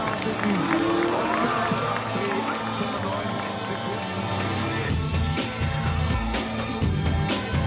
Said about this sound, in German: Und da hört man auch den Jubel im Hintergrund.